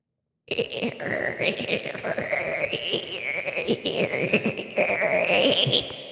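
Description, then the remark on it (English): A voice imitates the squealing brakes of a car as the brake is pressed, with a sustained, wavering high-pitched screech that rises and falls in pitch for about six seconds, loud and continuous with a grinding rasp underneath. “This is the perfect impression of what it sounds like when I press on the brake of my car.”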